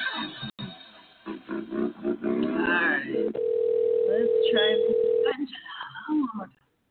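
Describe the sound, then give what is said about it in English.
A single long ringback tone purrs through a phone line for about two seconds, following muffled talk and with faint voices underneath, as a call rings out. “See if we can get her on the phone.”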